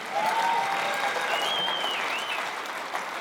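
A crowd claps steadily for about three seconds in response to the Bible verse "But God raised him from the dead", a dense, even wash of applause holding at a fairly loud level, with a couple of faint whistles or cheers riding above it.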